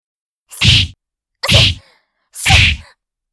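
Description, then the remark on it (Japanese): A woman's punches land on an unguarded face: three heavy impacts one after another at an even pace, each a loud, swishing thwack that fades quickly, with brief silence between blows and no talking. “だったら顔面パンチノーガードで受けるしかないよね。私のパンチが顔に当たるたびに情けない悲鳴出ちゃうね。”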